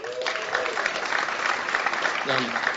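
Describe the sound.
Sustained audience applause, a dense steady clatter of many hands clapping, with a few brief voices and a whoop rising over it.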